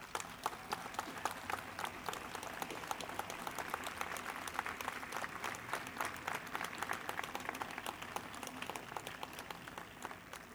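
Steady applause from an audience, a dense patter of many hands clapping continuously for about ten seconds at an even, moderately loud level, with no voices standing out.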